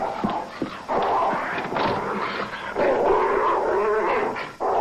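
A dog growls and snarls almost without pause, loud, with sharp yips breaking in throughout the agitated, rumbling noise. No one speaks.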